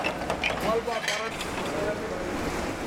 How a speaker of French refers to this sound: Regardez. Regardez ce lave-vaisselle. Il ne s'arrête jamais de tourner et il fait tout seul.